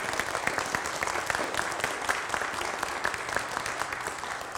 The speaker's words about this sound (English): And so let's give God a round of applause here this morning.